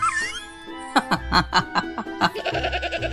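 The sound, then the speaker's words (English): A pygmy goat bleats in a quick series of wavering, nasal cries, loud, with a higher whine at the start and a low rumble underneath. “I mean, try bringing your pygmy goat into the village public library and see how far you get.”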